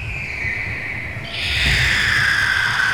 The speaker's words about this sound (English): Yeah, exactly like Earth. Except for the giant birds coming right at us.